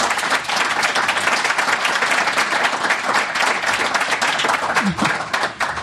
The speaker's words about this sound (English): So let's give them a big hand of applause.